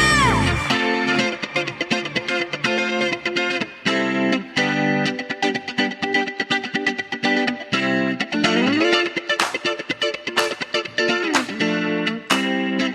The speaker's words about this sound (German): Hören wir uns seine Gitarre einfach mal an, oder? Vielleicht. Die ist doch so wunderschön.